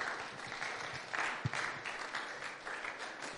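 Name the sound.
audience clapping hands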